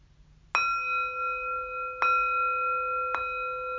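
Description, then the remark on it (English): A meditation bell is struck three times at an unhurried pace, each strike adding to the clear, sustained ringing tone that hangs in the air. No voices are heard. “I'll ring a bell.”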